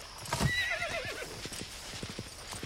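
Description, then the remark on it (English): A horse's hooves clip-clop in a steady, even rhythm as a rider rides up on a farm where a fence is being built, with a brief high whinny near the start. No one speaks. “Caleb rides up.”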